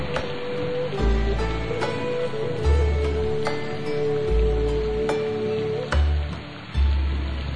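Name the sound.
rain falling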